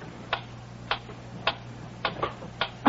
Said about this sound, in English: That clock is getting on my nerves.